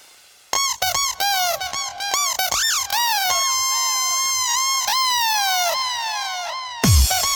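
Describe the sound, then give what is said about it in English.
A rubber duck toy squeaks in quick, choppy bursts, then lets out long, wavering, high-pitched squeals before a final harsh squawk. The squeaks are loud and stand alone, with no one talking. “Crazy duck toy.”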